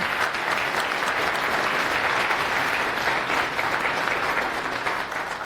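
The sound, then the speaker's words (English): Steady, dense applause from a large audience at the end of a technical talk, many hands clapping together in a sustained wash of sound at a fairly loud, even level for several seconds. “Applause.”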